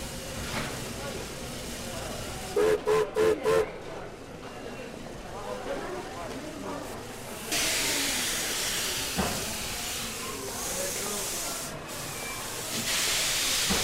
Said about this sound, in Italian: Sentite? Sta arrivando un treno.